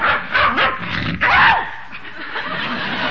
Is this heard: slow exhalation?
no